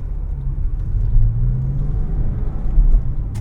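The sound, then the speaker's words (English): A car engine drones steadily, a low rumble with a rising tonal hum as the car pulls forward and gains speed, shifting through second and third gear at about 3,000 to 3,800 RPM, with no talking. “I think I'm going to turn off this show and enjoy driving this car again a little more.”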